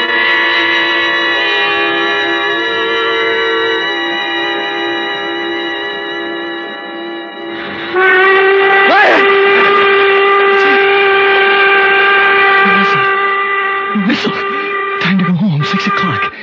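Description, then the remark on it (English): A steam whistle blows loudly and steadily, holding a rich, multi-toned blast that shifts pitch partway through and grows stronger, with brief clanks and rustles near the end. “And the whistle woke me up.”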